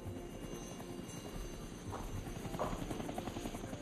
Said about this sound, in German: Aus der untergehenden Sonne kamen zwei Helikopter. Ein kleiner Kommandohubschrauber und ein Transporter. Schwarz. Ohne Markierung.